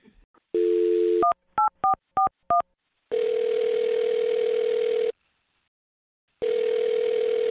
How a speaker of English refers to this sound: What I'm trying to get to is that I'm going to dial her phone number and see if we can get her on the phone and get your second date update, okay?